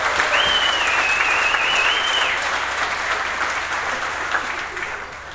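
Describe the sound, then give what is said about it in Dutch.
An audience at a competition claps steadily for the event's announcer, a dense wash of hand claps that stays loud for several seconds, then slowly thins and fades. A brief high whistle rings out near the start. “En dat is zeer zeker een applaus waard, want deze man doet geweldig.”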